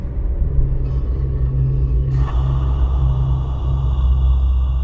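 A car engine rumbles steadily, low and continuous, with a faint hiss of outdoor air above it; the motor idles on without fading as the car is parked.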